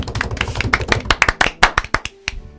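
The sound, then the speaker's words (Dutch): A short burst of applause from a small group at a Sinterklaas celebration, after a poem is read, with quick, uneven claps that thin out into a few scattered, louder individual claps before fading. “Ook hiervoor een welgemeend applaus.”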